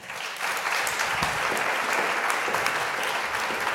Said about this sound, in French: Alors, peut-être qu'on peut s'échauffer déjà en applaudissant nos autrices.